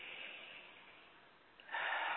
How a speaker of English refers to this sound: And taking a deep breath, just breathing deeply.